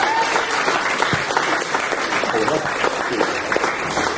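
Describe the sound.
An audience claps steadily, a dense, sustained wash of many hands at fairly even loudness for several seconds, with faint voices mixed into the applause.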